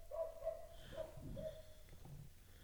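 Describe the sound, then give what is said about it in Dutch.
Two dogs fight in the street, with repeated high whining yelps and a rough snarling burst in the middle, fairly faint and with no voices. “Er vindt hier ondertussen een straatgevecht plaats tussen twee honden.”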